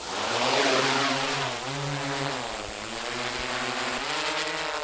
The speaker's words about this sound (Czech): V tuhle chvíli nám ten dron odletěl sám, ale do budoucna vy plánujete na něj zavěsit takové nosiče pachové látky.